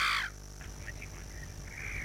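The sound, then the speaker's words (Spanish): Birds calling outdoors at Papagayos, a small village in San Luis: a loud, harsh caw opens the moment, followed by a few faint chirps over a low background rumble, with no one speaking. “No sé si esos eran precisamente los pájaros, pero sí que está la tranquilidad.”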